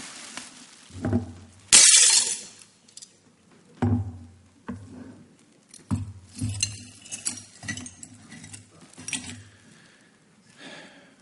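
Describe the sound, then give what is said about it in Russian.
A vase shatters with a loud, bright crash near the start, followed by several sharp clinks and scattered tinkling of ceramic shards settling over the next few seconds, with no talking. “Ценные, но разбитые.”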